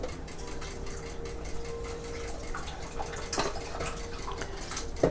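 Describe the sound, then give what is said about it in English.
Sautéed onions with garlic and ginger in ghee slide and pour out of a pan with a steady sizzling hiss, a soft scrape midway and a sharp clink of metal right at the end, over a faint background hum. “I'm going to have to pour it all in because I can't get all of the.”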